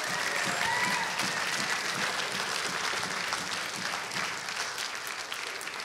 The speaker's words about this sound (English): Okay, let's give all the graduates a big round of applause.